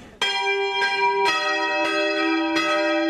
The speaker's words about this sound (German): wenn erst einmal die Glocken schlagen